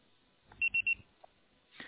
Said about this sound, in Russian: Пожалуйста, попробуйте перезвонить позднее, или оставьте сообщение после звукового сигнала.